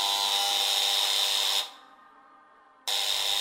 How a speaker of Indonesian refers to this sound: Wah, bel sudah bunyi tuh. Yuk, kita masuk kelas lagi.